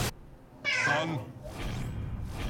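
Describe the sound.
A cat lets out one drawn-out, wavering meow, fairly loud. Quieter background noise with faint, indistinct voices follows.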